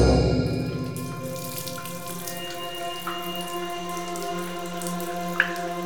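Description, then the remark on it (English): A few sparse water drops fall slowly and separately onto granite against a steady, echoing hum, with no voices present. “Igraine heard the soft dripping of water on granite”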